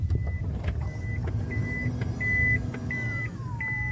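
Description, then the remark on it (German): Electric sliding side doors of a van open to the second seat row after a push button on the door is pressed, with a steady mechanical hum, while a series of short, evenly spaced warning beeps sounds throughout and a motor whine dips near the end. “Genau, die elektrischen Seitentüren öffnen sich und geben den Raum wohl zum wichtigsten dieses Autos frei, die zweite Sitzreihe.”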